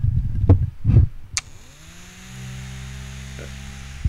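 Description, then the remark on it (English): An electric motor is switched on with a push button: a couple of soft thumps and a click, then the motor spins up, its whine rising in pitch before settling into a steady hum with a strong low drone. “And when you press the button, you'll hear it ramp up.”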